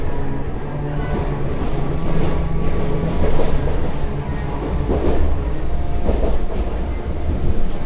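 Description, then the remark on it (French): An RER A commuter train rolls steadily along the rails from La Défense toward Saint-Germain-en-Laye, France, a loud continuous low rumble with rhythmic clattering swells, with no talking. “On est donc avec vous à La Défense et on va vous accompagner sur ce trajet jusqu'au terminus du RER A à Saint-Germain-en-Laye”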